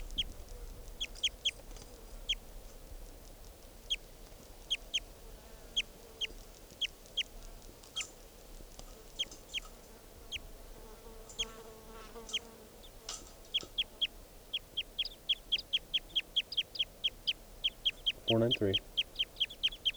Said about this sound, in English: This is bird 493 again.